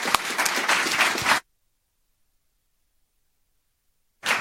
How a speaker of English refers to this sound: Honestly, without you, wouldn't have been so much fun volunteering. So please pat yourself on the back and applaud your neighbors on here. Thank you. Thank you.